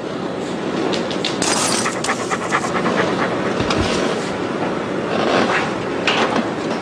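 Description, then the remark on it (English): A dog pants steadily in an anti-drug commercial, quick breathy huffs repeating in a loose rhythm over a constant hissy background, fairly loud throughout with no one speaking. “30 seconds of an anti-drug commercial with a talking dog.”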